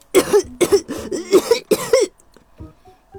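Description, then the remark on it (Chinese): A voice imitates a young wolf's coughing fit as it raises its head to the moon, about to howl like the big wolves: about seven quick, hoarse, rasping coughs in a fast rhythm, loud, then a few fainter sputters trailing off into quiet. “本该听起来十分可怕，但是突然，非常意外，小狼咳嗽了起来。”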